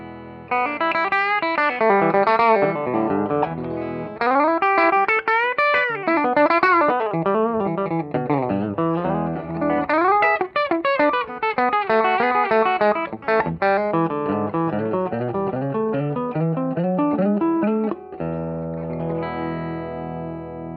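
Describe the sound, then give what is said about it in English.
A Sweetwood electric guitar played with a clean tone plays a continuous melodic passage of plucked notes and bent phrases, loud, ending on a sustained ringing chord with no voices. “I'm going to start with the Sweetwood, and then we'll move to some Strat tones. I'm going to keep it clean for right now, so I hope you enjoy this.”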